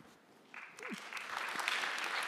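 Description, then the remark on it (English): Audience applause starts after a brief quiet moment and quickly swells into a dense, steady patter of many hands clapping. It grows slightly louder and stays full to the end. “I do this every week and they never applaud, so good job”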